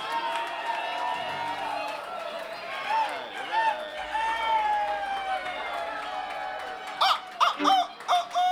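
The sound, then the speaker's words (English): Several roosters crow outdoors, their drawn-out calls overlapping, with a few sharp, louder bursts of noise near the end. “We got some roosters out there.”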